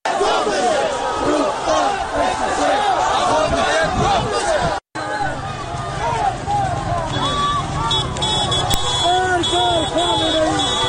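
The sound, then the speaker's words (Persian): A dense crowd of street protesters in Iranshahr, Iran, shouts and chants together, many overlapping voices rising and falling loudly and continuously, with a brief cut near the middle and a sharp high tone later. “در اینجا صدای معترضان را در ایران شهر می‌شنوید.”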